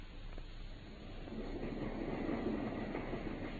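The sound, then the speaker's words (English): A steam train runs along the rails with a steady, low rumble and faint rhythmic clatter of the wheels, building slightly louder and staying continuous throughout, with no voices. “I think we've just time to catch our train at Paddington.”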